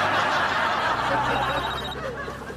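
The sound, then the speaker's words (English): A cell phone rings with a short, high electronic tone partway through, inside a car being driven in Chicago, over a loud, steady wash of background noise with faint murmuring voices. “Not supposed to talk on your cell phone while you're driving.”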